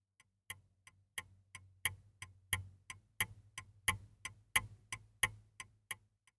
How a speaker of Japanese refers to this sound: コンピューターですか？ いいえ、違います。時計です。 はい、そうです。時計です。